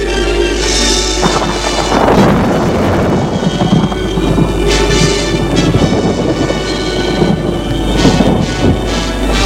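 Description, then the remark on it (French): Loud rolling thunder rumbles through a stormy downpour, with heavy rain hissing steadily and deep crashes swelling and fading across the whole stretch, no voices. “les éclairs, le tonnerre”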